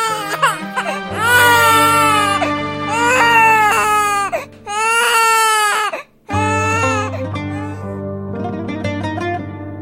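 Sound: newborn baby crying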